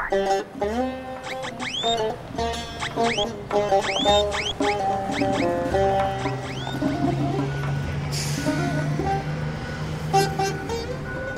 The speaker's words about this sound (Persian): صدای هیاهوی ترمینال و مسافر صدا زدن ها و بوق کرکننده ی اتوبوس ها، صدای پیر مردی که تازه از اتوبوس پیاده شده.